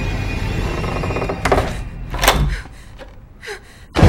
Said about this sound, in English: The front door creaks shut.